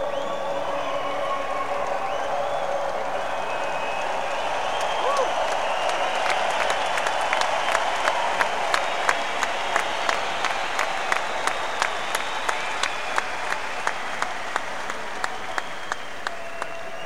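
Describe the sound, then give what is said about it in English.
A large crowd at a live show applauds steadily, a dense wash of clapping that settles into rhythmic, unison hand-claps partway through and keeps that steady beat to the end. “Seriously, I say that these crowds are good, but they just keep getting better. You've just been really great.”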